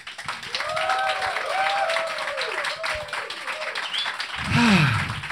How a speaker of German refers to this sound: Wir machen jetzt nochmal einen richtigen Applaus zum Abschluss für die beiden.